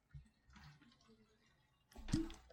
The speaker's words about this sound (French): C'est fou, on entend encore l'ébullition, hein?